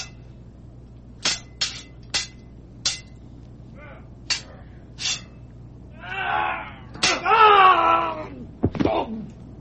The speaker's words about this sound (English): And that's just the sound of people fighting over toilet paper every day. Right. That's how it is now, guys.